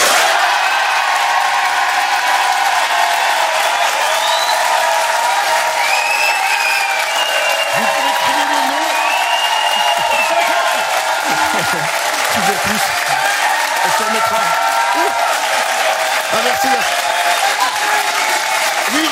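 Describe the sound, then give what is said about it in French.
A large live-broadcast audience at a ski resort applauds steadily for the full length, a dense roar of clapping with whoops and shouts of cheering rising through it, loud and sustained without a break. “Vous nous applaudissez, vous criez vraiment partout”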